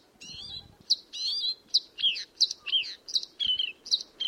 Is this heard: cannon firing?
no